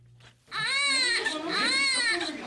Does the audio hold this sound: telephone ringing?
no